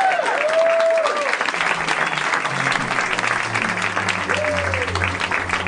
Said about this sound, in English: I thought that was the THX sound. My congested ears heard that as the... What was it? It was, it's one of our rap beats.